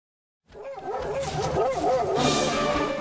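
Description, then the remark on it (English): A chorus of sled dogs at the start of the 2023 Iditarod Trail Sled Dog Race in Alaska barks and yips excitedly, many voices overlapping in a continuous, loud, energetic din that starts abruptly and keeps going with high-pitched howls mixed in. “The 2023 Iditarod Trail Sled Dog Race is off and running.”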